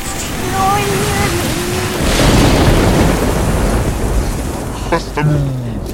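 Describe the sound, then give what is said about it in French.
A loud, rolling rumble of thunder swells up after a couple of seconds and churns on steadily, with brief vocal sounds and tonal cries at the start and near the end. “Pense tonnerre dessus, Lulu.”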